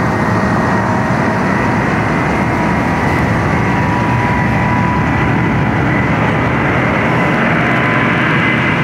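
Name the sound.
aircraft engine failing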